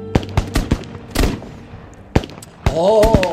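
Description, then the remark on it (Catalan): Sharp, loud gunshots crack in an irregular volley of battle gunfire on a front line involving the Confederate army, not fireworks, several close together with a short lull between; a voice cries out briefly near the end. “No, que no són focs artificials.”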